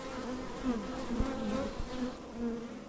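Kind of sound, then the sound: insect, honeybees buzzing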